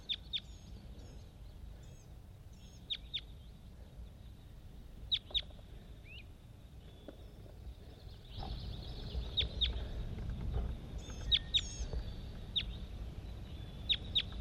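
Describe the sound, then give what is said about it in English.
Several wild birds call back and forth, a released bird (bird 80) responding to many other wild birds, with short, sharp, high-pitched chirps and clucks repeating at uneven intervals, over a steady low rumble that grows louder halfway through. “Responding to a whole bunch of other wild birds all over the place.”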